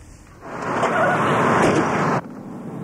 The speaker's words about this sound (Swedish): Bilen lämnar senats- och kongresshuset i Washington. Den har just hämtat beslutsfattarnas rester, den mat som blev över efter dagens lunch, och körde nu till ett gult hus där på 14:e gatan.